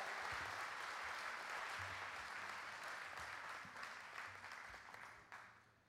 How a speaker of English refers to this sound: Give them a hand clap of praise.